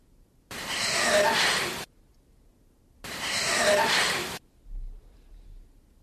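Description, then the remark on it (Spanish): Two loud, rasping breaths in a recorded psychophony, each lasting over a second and separated by a short pause, labored like someone breathing very badly. A faint low thump follows at the end, with no talking. “seccionada la psicofonía, escuchamos de nuevo esa respiración que, por cierto, parece es que alguien que está, no sé, respirando muy mal, y el fuera ahora es, no voy a decir nítido, pero está.”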